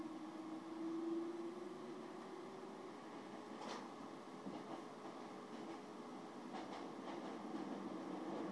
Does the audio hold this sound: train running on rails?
yes